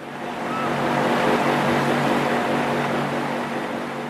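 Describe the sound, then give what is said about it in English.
A water pump extracting water from one of the two wells that keep Water World open runs steadily, its motor humming in a low, even drone beneath a constant rush of flowing water, fairly loud throughout with no speech. “A pump extracts water from one of the two wells that keep Water World open.”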